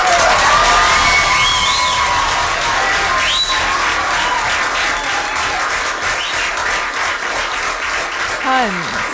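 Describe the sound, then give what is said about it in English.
A crowd of community members applauds loudly and steadily, with scattered whoops and high cheering shouts rising over the dense clapping, as new mayor Jermaine Wilson takes his seat after a 5-0 vote on January 8th; people are clapping and taking video. “They were raising the roof, clapping, taking video.”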